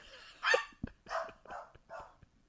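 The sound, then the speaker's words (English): A dog, Bear, barks four times on the other side of a door in a quick, uneven series, each bark sharp and moderately loud, with brief pauses between them and no voices present. “They have their own – right now, Bear's barking on the other side of the door for some reason.”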